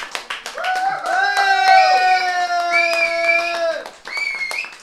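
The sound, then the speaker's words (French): An audience at a live concert and interview evening applauds the venue hosts with a steady patter of many hands clapping, while loud sustained cheering voices rise over it, easing off and then swelling again near the end. “qui nous accueillent ce soir au lieu de ma mère, si on pouvait les applaudir chaleureusement.”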